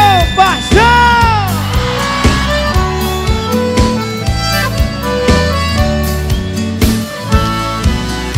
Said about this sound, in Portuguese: E cadê o grito dos cachaceiros?